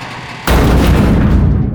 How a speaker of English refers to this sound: Once. Twice. Three times more, the thing smashed against the barrier.